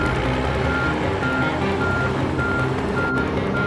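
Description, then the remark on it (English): An approaching forklift carrying a car on its fork: its reversing alarm beeps repeatedly over a steady, loud engine rumble, constant throughout with no voices. “Dax turns and sees Bradley stuck in the belts, then notices the approaching forklift.”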